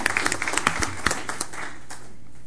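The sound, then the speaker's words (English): A short burst of applause from a small group at a board meeting, congratulating a member on becoming chair of an organization; dense overlapping claps at moderate volume that thin out and fade away within about two seconds. “Well, I think deserves a round of applause.”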